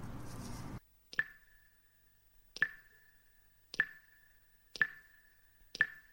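Water drips steadily after a summer rain shower, five clear plops with a short ringing tone spaced about a second apart, distinct against near silence after a brief muffled noise at the start.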